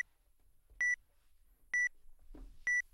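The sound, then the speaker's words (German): A book scanning device emits three short, identical electronic beeps at a steady interval, loud, with a faint rustle of a book page shifting between the second and third beep; the device beeps while the page moves, waiting for the page to lie still before taking the image. “Man hört das dann auch, das Gerät piepst dann.”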